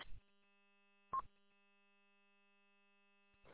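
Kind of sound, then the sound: signal or alarm, telephone keypad dialing tones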